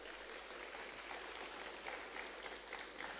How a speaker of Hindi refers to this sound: एक बार दीदी जी के लिए भी तालियां बजाएंगे।